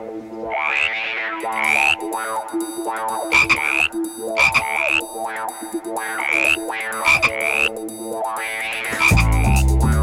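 Frogs croak loudly and repeatedly in a dense, overlapping chorus, their rising calls recurring every second or so, with a brief burst of noise near the end and no voices.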